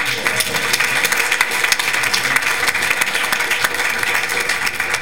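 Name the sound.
audience applause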